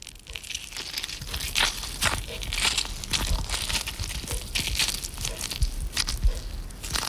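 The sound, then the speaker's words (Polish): Squeezing an orange for juice, recorded in the evening: a steady run of wet, crackling squelches and crunchy bursts with no talking, rising and falling irregularly across several seconds at moderate loudness. “No blisko, bo to nie był ogórek, tylko wyciskana pomarańcza.”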